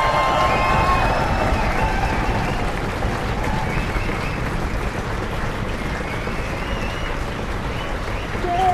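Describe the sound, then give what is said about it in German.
A crowd claps steadily and densely for roughly nine seconds, a continuous loud wash of applause with a few scattered voices and cheers mixed in. “Und dieser Applaus hier, der ist für euch.”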